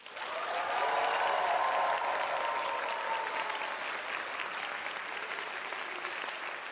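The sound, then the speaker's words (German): Sustained applause from a large audience at the Deutsche Oper Berlin, a dense steady wash of clapping that swells in quickly and holds at an even level for several seconds without any voices standing out. “Ihr hört, hier sind ein paar Leute.”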